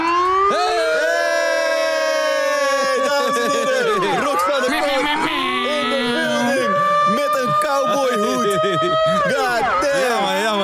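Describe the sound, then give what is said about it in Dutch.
A loud, wailing alarm siren with rising and falling pitch sweeps sounds continuously for about ten seconds, several overlapping tones layered with crowd noise and voices. “Stop met die alarm, alsjeblieft.”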